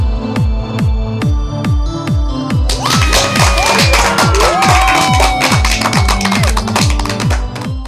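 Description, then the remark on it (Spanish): A crowd bursts into applause and cheering, with whistles cutting through, over a steady pounding music beat that plays throughout; the crowd noise swells in after a few seconds and stays loud. “Buenos días, con esa energía positiva y esos aplausos damos inicio a este episodio número 95 ya del programa Te Invito a un Café.”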